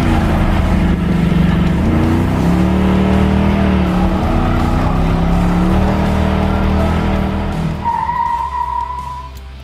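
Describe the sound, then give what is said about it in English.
A loud, deep engine of a 1977 Pontiac Trans Am muscle car rumbles and revs, its pitch rising and falling, before a high tire squeal cuts in near the end as the sound fades. “It was the 1977 Pontiac Trans Am from Smokey and the Bandit”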